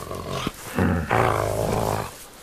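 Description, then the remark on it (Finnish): A dog growls in two rough, rumbling bursts, the second long and sustained, loud and harsh with no talking over it. “Melkoinen susi oot sinäkin.”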